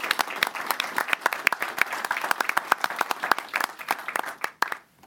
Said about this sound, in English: And so I would like for everybody to have a big round of applause and a congratulations to our NYSOD recipients.